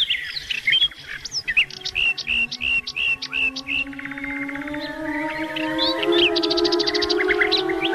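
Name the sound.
birdsong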